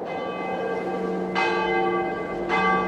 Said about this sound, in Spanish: Fueron a intentar elevarse otra vez, pero oyeron que las campanas tocaban para el rezo de vísperas antes de la cena.